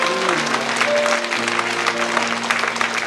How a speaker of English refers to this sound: give God a clap offering this morning, Jesus.